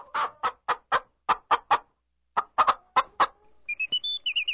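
A chicken clucks in two quick rhythmic bursts of sharp clucks with a short pause between, then breaks into higher, drawn-out squawking calls at the end.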